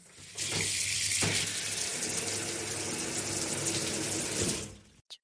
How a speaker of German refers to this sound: Die warme Dusche.